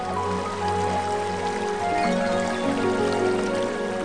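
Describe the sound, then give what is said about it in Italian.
Rain falling at night onto the shuttered balconies of houses in a steady, even patter that hisses across the whole clip, with soft sustained musical tones humming beneath it and no voices. “Cade la pioggia con melodia, scende sui balconi serrati delle case, rallenta ormai.”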